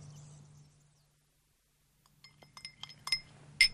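Glass clinks several times in quick, irregular succession, bright, ending with a sharper ring, over a low steady hum after a brief quiet stretch.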